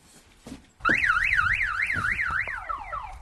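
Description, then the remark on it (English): A car alarm blares, its piercing tone sweeping rapidly up and down in a repeating wail that starts abruptly after a brief quiet moment and continues loudly to the end. “When was the last time you heard an alarm up here?”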